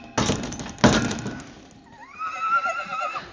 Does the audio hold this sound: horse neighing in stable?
yes